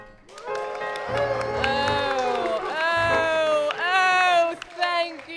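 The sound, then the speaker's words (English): A loud, enthusiastic crowd cheers and whoops over scattered clapping, voices rising and falling in excited shouts that carry on without pause for several seconds. “Such rapturous applause, such exultant cheers for me.”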